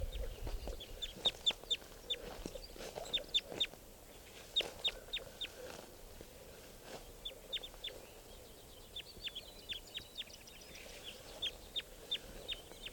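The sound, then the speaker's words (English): Repeated short, sharp bird calls come in quick clusters throughout, moderately loud, with brief pauses between bursts and a quiet outdoor background. “So, one of the birds here is calling.”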